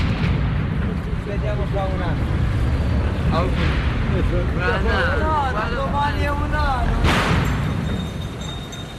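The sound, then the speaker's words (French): Sharp firecracker bangs and booming fireworks go off over a noisy outdoor crowd in Naples, on the cathedral forecourt when the blood of Saint Januarius liquefied, with one especially loud blast standing out amid continuous rumble and chattering voices. “Et donc même des feux d'artifice et des pétards énormes sautaient jusqu'à un certain temps sur le parvis de la cathédrale quand le sang de Saint-Janvier s'était liquéfié.”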